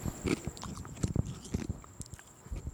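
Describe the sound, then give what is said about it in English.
Crunching of someone chewing ice cubes, a series of irregular sharp crackles and snaps with wet mouth sounds in between, fairly loud and with no talking. “As you chew your ice awkwardly and shit.”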